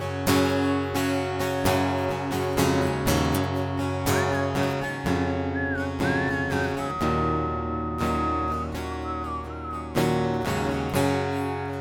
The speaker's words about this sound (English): And I get to whistle.